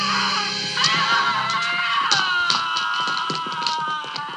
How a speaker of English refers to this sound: Still screaming.